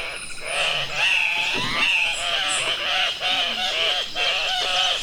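A chorus of harsh, nasal calls from male Andean cocks-of-the-rock gathered at a lek during mating season overlaps continuously, with screaming, squawking, grunting notes rising and falling in a loud, busy jumble and no voices.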